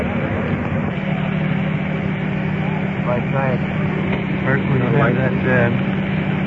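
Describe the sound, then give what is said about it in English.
A rescue truck engine runs steadily, a constant low droning rumble throughout, while people talk over it partway through. “Rescue truck turned down a little bit.”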